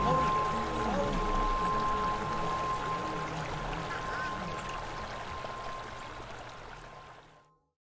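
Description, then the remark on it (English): Water splashes and pours steadily for several seconds as a person touches it, a continuous wet churning with indistinct voices underneath, before it cuts off abruptly. “I touched the water.”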